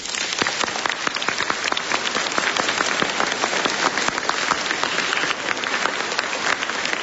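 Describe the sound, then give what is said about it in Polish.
A crowd of children applauding warmly at a regional meeting of children's rosary circles in the Sanctuary of Our Lady in Krasnobród, Poland, greeting Radio Maryja listeners: dense, steady clapping that fills the whole stretch at an even, loud level, with no voices over it. “W imieniu wesołej, dziecięcej rodzinki pozdrawiamy bardzo gorąco wszystkich słuchaczy Radia Maryja w naszej ojczyźnie i poza granicami Polski, a czynimy to bardzo gorącymi, rzęsistymi oklaskami.”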